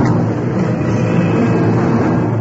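A subway train heading downtown rumbles along, a loud, steady low roar with a hissing wash of rail noise above it, holding an even level throughout with no voices.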